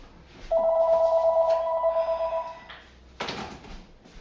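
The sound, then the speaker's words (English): A home telephone rings loudly in one sustained electronic trill lasting about two seconds, then stops, followed by a brief rustling clatter as it is handled. “Okay, on the other hand, my home phone never rings.”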